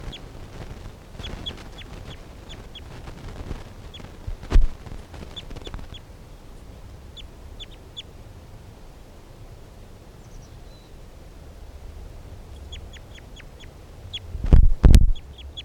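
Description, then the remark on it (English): Bursts of thin, high-pitched bird calls repeat in quick chirping series over a low, steady rumble, with a few loud thumps breaking in near the middle and at the end. “So recording bird 328.”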